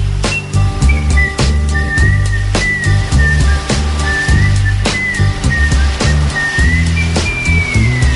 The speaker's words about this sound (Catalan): I clar, va quedar gravada amb els xiulets perquè ell no tenia la lletra escrita.